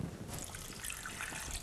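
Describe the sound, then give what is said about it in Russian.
Water streams steadily into a saucepan holding apples, for cooking kissel: a continuous trickling and splashing pour lasting under two seconds, with no voices over it. “И заливаем водой.”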